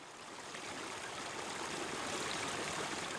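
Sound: rushing mountain stream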